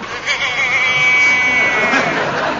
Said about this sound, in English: There's a sheep there. A sheep and an owl.